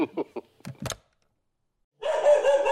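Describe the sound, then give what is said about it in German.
A dog lets out a quick run of short, sharp barks, then falls silent before a longer, rough, sustained burst of sound follows. “Du hast einen Hund.”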